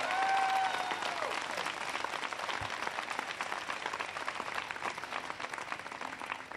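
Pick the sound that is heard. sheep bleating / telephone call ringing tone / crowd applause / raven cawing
crowd applause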